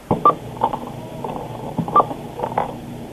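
Two short electronic beeps from a store register, with the phone held right next to it, come through a tinny phone line, spaced about two seconds apart, amid soft clattering and handling noises.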